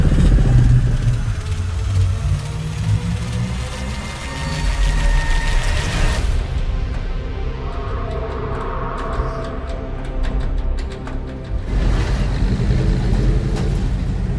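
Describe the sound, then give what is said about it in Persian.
A milk-hauling truck's engine roars loudly and continuously as it drives at maximum speed, the heavy rumble steady throughout with a couple of brief shifts in tone. No one speaks. “این کامیون حمل شیره دارم با حد اکثر سرعت میرم.”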